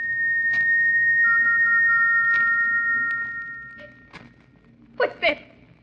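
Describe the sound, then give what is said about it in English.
An eerie, steady high whistle, heard late at night in a bedroom at Stoke Moran as a storm brews, hangs in the air for several seconds over a low droning hum, then fades away before a couple of soft thuds. “What's that whistle?”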